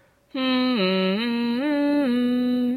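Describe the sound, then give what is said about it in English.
A person hums a steady, clear tune of a few sustained notes, dipping lower, then rising and falling again, fairly loud after a brief moment of quiet. “What about adding some different notes? Can you hum?”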